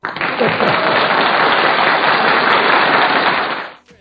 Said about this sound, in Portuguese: Olha, essas palmas aí no começo pareceram um começo de chuva, viu? Mas é da hora, é da hora.